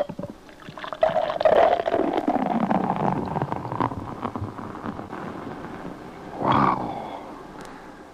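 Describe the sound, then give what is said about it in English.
The cap pops off a bottle of Aaron Brew Formula 1002 beer with a sharp click, then the beer pours in a steady, gurgling stream whose tone slides as the glass fills, ending with a brief fizzy surge. “And remember, for real enjoyment, all you have to do is pop a cap.”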